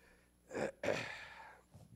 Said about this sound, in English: I need to blow my nose.